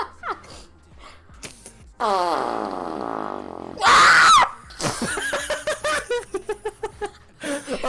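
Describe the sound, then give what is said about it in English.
A long, buzzing fart-like noise gives way to a loud, shrill scream lasting about half a second, followed by rapid, choppy bursts of laughter. “First you fart and then you scream.”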